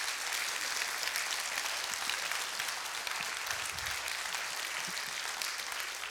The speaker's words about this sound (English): This is the part where we can change. We can just sort of applaud and cheer these people as a means of thanking them.